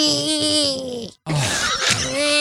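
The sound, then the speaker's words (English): A voice imitates loud snoring with two drawn-out, groaning, nasal snorts, separated by a brief pause. The sound is forceful, and no words are spoken. “when she recorded me on her phone snoring, and it sounded like.”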